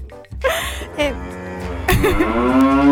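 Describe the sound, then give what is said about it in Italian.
A person imitates a cow with a long, drawn-out moo that swells and wavers in pitch, loud, filling about three seconds with a brief breathy start. “C'è anche chi manca la mucca, no, non lo so.”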